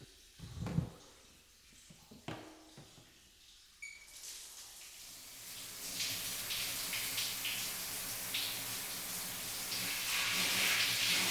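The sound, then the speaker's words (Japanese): A few soft knocks and handling sounds, then water starts pouring and spraying, a steady hiss that builds louder as it rinses body soap suds off a man's genitals. No one speaks. “おちんちんの泡だけ流してしまいますね。”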